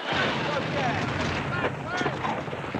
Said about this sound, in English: The war's louder today. I asked them to hold it down.